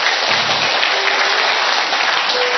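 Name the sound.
loud round of applause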